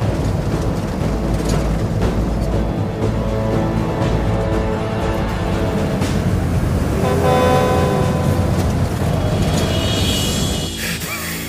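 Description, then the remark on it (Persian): A car engine roars loudly and steadily at full throttle as the vehicle speeds after a forestry vehicle, with a car horn honking midway through over the dense road noise. “برو دنبال ماشین جنگلبانی تخت گاز.”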